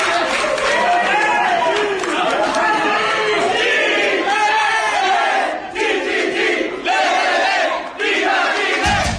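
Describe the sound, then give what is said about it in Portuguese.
President Michelle Bachelet and several aides, in her office and celebrating a win by Chile's national football team, loudly chant 'Chile, Chile, Viva Chile!' in unison, rhythmic shouted phrases rising and falling over a constant roar, with brief dips between chant lines. “Com o cachecol da seleção, Bachelet vibrou com o famoso grito: Chile, Chile, Viva Chile! Ouça direto do gabinete.”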